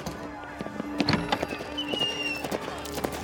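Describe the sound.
Horse hooves clip-clop in a quick, steady rhythm, each sharp knock distinct, with a faint murmur of voices and tonal background sound running underneath.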